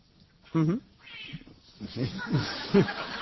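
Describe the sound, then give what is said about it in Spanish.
A cat meows loudly, followed by a few shorter, quieter meows spread over the next couple of seconds, with faint murmuring in the background. “Y al final conseguimos un gato.”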